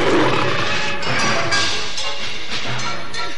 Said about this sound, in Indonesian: Harimau itu cukup ganas dan tenaganya pun cukup besar.